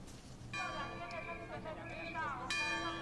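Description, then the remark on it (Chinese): Crisp church bells ring out at the Wanjin Basilica in Wanjin village as the Virgin Mary's sedan procession sets off, a run of bright, clear strikes, each tone hanging and overlapping the next, with a steady low background murmur beneath them. “清脆的钟声响起，圣母圣轿从万金圣母殿前出发，十几名教友奋力扛起圣轿，一步一脚印绕行万金村，前头还有主日学学生组成的打棍队开道。”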